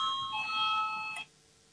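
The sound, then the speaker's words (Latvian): An electronic voting bell in the Latvian parliament, the Saeima, rings steadily for just over a second, calling a vote on Minister Pūta's proposal number 13, a bright sustained tone with harmonics, then cuts off abruptly into quiet hum. “Lūdzu zvanu, balsosim par 13. varam ministra Pūtas priekšlikumu.”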